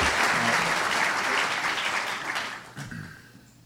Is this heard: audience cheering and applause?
yes